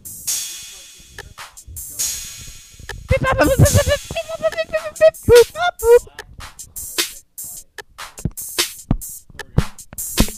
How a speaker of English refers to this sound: I am slapping the mic on my ass. That noise is from ass slapping.